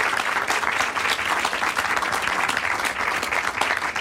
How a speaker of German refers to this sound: Auch für ihn einen großen Applaus. Vielen Dank.